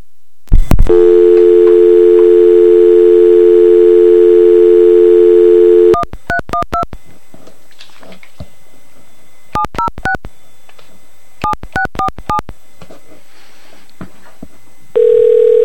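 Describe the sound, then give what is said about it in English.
A click, then a steady, loud landline dial tone hums for about five seconds, followed by three quick clusters of touch-tone dialing beeps and a short final tone as a call is placed on a landline. “Alright, let's see if we got some dial tone.”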